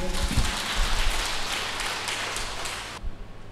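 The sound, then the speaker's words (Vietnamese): A crowd applauds with dense, steady clapping that holds for about three seconds, then cuts off abruptly, leaving only faint low background sound. “Thôi tự cho anh tràng pháo tay luôn đi.”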